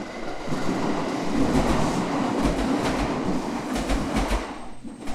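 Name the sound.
voice imitating a train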